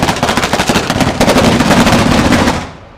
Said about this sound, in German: Ja, und dann wird die verbrannt, dann gibt es Feuerwerk und dann wird tanzen. Und es geht dann bis tief in die Nacht rein.